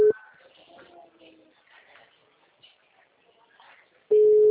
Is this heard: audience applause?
no